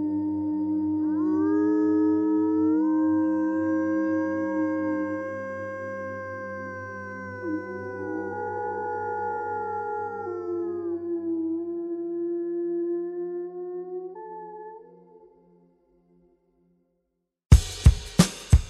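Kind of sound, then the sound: animal, wolves howling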